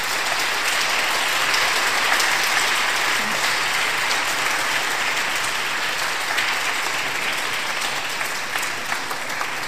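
Steady, sustained applause from an audience for the women Sunday-school monitors at the start of a church service, a dense wash of many hands clapping at an even loudness for the whole stretch, with no voices standing out above it.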